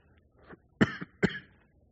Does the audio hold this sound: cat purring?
no